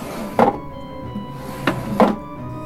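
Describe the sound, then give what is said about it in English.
A wooden chair is brought over across a floor in three short bumps and scrapes, one clear knock followed by two closer together, with no talking. “Bring that chair over so I can stand on it.”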